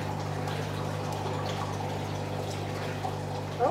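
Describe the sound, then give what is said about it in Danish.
An octopus squirts jets of water in an aquarium, a soft trickling, dripping texture over a constant low electrical hum from the tank equipment, with a brief splash near the end. “Ja, den sprøjter med. Ja, med sin vandstråle.”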